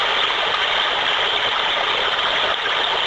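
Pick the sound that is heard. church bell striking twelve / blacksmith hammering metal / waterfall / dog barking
waterfall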